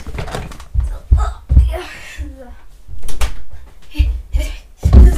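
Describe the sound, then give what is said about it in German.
A door is pushed shut with a few dull thumps and clunks, mixed with rustling movement and brief bits of a young voice. “Warte, ich muss kurz die Tür zumachen.”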